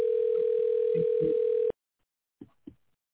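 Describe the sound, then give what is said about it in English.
A steady, loud telephone dial tone hums at a single pitch for under two seconds as a dropped call is being placed again, then cuts off abruptly, followed by two short muffled knocks or clicks. “Let me try and call her back again because We lost her on the phone.”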